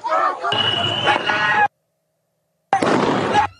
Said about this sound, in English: And video provided by DHS appears to show fireworks were shot toward the agents as well. You can hear the sounds popping.